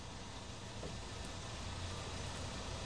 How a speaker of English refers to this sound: A car coming. Yes. It's going. Coming. Yeah. Goes bye bye car. Bye bye car.